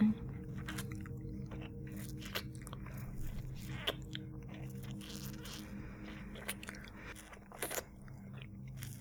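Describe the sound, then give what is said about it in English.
Wet mouth noises of sucking and swallowing during oral sex, with repeated smacking clicks and squelches over a low steady hum, fairly quiet and continuous with no talking. “And swallowing.”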